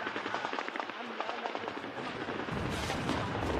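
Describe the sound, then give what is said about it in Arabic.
Dense, rapid cracks of gunfire form a continuous crackling barrage, and heavier low booms of shelling join as it grows louder over the final second, as the Lebanese army shells the Nahr al-Bared camp with heavy weapons in fighting with entrenched Fatah al-Islam members. “عناصر فتح الإسلام يتمترسون داخل المخيم والجيش اللبناني يحاصر ويقصف.”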